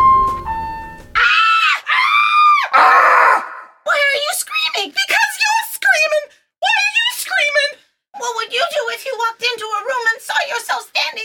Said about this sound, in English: Why am I screaming? Because that's how you're programmed!